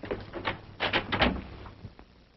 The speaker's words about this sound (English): The door to Gillespie's quarters is opened.